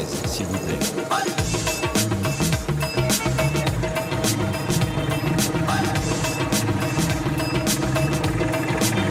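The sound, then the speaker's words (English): A motorcycle engine runs steadily and loudly throughout on a ride toward the heart of the Indian countryside, an hour and a half from Atimiyabaki, a dense continuous drone with rattling, clattering overtones and no pauses. “Heading toward the heart of the Indian countryside, an hour and a half by motorcycle from Atimiyabaki.”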